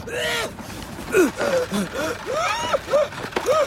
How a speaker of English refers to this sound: the coachman with his big whiskers, pipe and tiny top hat, coughs and splutters.